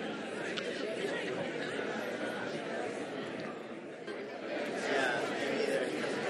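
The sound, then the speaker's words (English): A crowd at a sermon murmurs steadily as many people turn to their neighbors and share their childhood nicknames, overlapping voices blending into an even, continuous hubbub with no single speaker standing out, swelling slightly louder toward the end. “This is great to get all this murmuring going on.”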